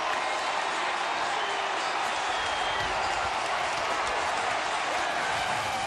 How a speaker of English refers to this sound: That is the crowd. How sweet it is. 45,000 fans watching a Jumbotron.